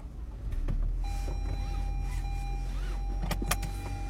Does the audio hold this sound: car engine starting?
yes